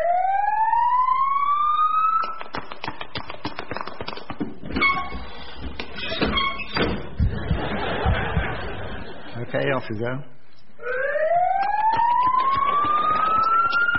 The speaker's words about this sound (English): Never mind that siren.